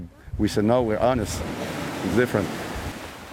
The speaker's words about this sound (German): Sagt Jill und schaut raus aufs Meer. Wir stehen am Strand